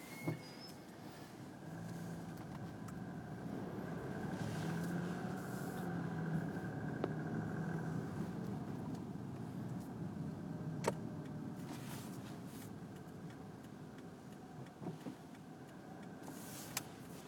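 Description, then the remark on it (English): Cars pass by in a continuous wash of traffic noise, a steady engine and tire rumble with occasional brief clicks and swells, with no voices. “Where are all these cars coming from?”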